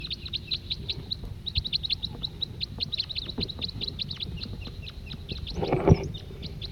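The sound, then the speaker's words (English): A male siskin sings a rapid, twittering song of high, thin chirps and trills that run continuously, with a brief louder buzzy wheeze near the end, over a soft background rumble. “They're siskins. Now back to that male who was singing before.”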